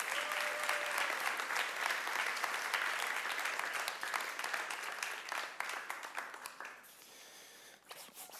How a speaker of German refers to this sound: Ein Applaus für euch beide erstmal.